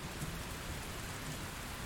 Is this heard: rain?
yes